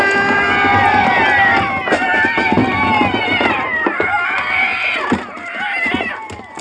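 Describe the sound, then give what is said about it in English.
A loud, chaotic chorus of many cats yowling and screeching at once, their wailing cries overlapping and bending in pitch, punctuated by sharp thumps and clatter as a horse-drawn wagon hits a large rock in the road and crashes, throwing cats into the air. “Did you ever see so many cats in the air at one time?”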